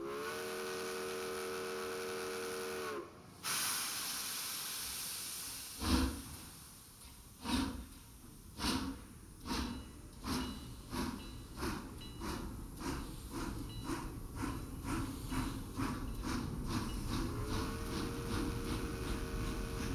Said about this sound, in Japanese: それでは、癒しの寝台列車、ブルートレイル、出発いたします。